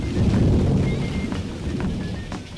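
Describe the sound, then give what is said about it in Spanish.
A loud, deep thunder clap that rolls on as a heavy, steady rumble for a couple of seconds, with a faint rain-like hiss above it and no voices. “Entonces se escuchó el rayo. Al ratito, otra vez.”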